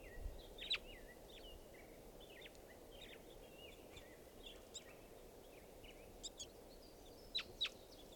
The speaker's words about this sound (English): Birds are calling here. There they go, across the park to the other side of the park. They're circling around.